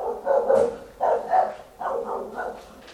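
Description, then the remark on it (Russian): A dog barks in three quick bursts, each a cluster of rough, mid-pitched barks, sounding slightly muffled, with no talking over it. “Вот, видите, собачка пришла поругаться на нас.”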